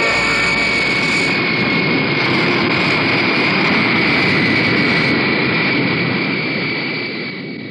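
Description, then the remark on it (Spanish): A jet aircraft roars loudly as it takes off and climbs into the skies over Germany, a steady high whine over a broad rumbling engine noise that begins to fade away near the end. “El jet Albatros asciende y se pierde en los cielos de Alemania.”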